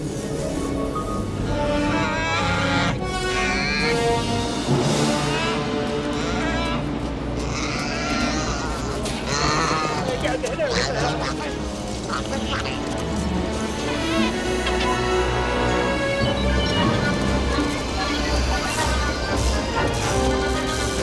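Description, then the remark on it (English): A bustling, upbeat orchestral film score for the Echo Base Han sequence plays steadily at full volume, with sustained strings and brass under bleating animal-like cries and an occasional crash from the scene's effects. “Let's take a listen to this Echo Base Han sequence again, this time with Williams' music restored.”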